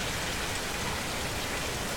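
heavy rain falling

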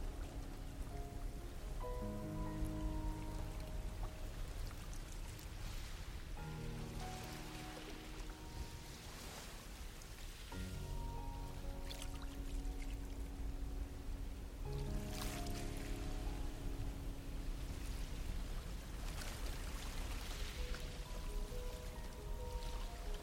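sea water

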